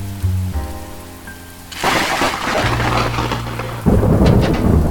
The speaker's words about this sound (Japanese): あら、停電。雷、近くに落ちたのかしら。